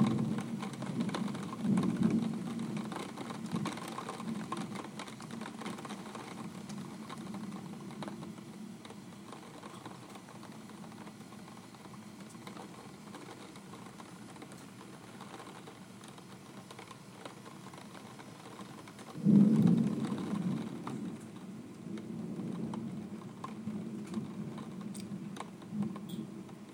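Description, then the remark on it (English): Steady rain hisses throughout while low thunder rumbles, with a brief louder roll near the start and a stronger clap around two-thirds through. No one speaks. “A little thunder action for you.”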